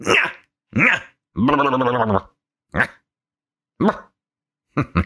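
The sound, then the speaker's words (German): A person imitates a yapping dog, letting out a series of short, sharp vocal barks with one longer, drawn-out growly yelp in the middle, separated by brief silences. “So kann man einen Podcast auch anfangen, ne? Man kläfft erstmal wie so ein Köter.”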